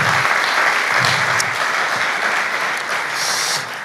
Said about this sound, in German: Yes, vielleicht können wir allen vier nochmal einen großen Applaus geben. Danke euch für das Teilen eures Herzens, richtig stark.